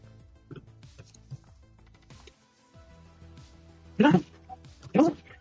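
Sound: sneeze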